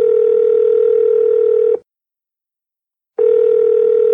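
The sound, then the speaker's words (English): A steady, loud telephone tone hums for under two seconds as a phone call is being placed, cuts to silence for over a second, then resumes unchanged. No voices are heard. “So let's get him on the phone.”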